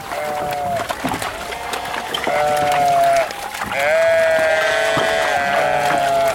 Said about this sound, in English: Sheep are like people. They'll follow each other if you just give them a chance.